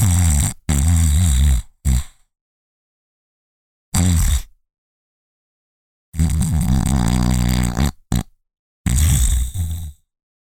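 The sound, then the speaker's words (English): A voice mimicking loud snoring: a series of raspy, rumbling snores in irregular bursts, some long and drawn out, others short, separated by brief silences, with no talking. “You dozed off.”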